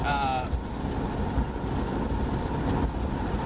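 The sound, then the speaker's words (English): Strong wind roars steadily outdoors, pushing passing cars around, with a deep, constant rumble of traffic beneath it, loud and unbroken throughout, with a brief faint tonal whine at the very start. “Damn, it's windy out here. Cars getting pushed around.”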